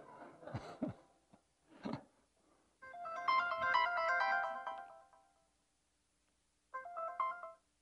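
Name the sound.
cell phone ringtone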